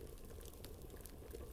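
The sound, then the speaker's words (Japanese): A clay pot (donabe) stew of chicken, white fish and tofu in clam broth simmers steadily, soft irregular bubbles popping and gurgling in a continuous low burble, fairly quiet, with no voices. “グツグツグツあったか土鍋料理だよ。”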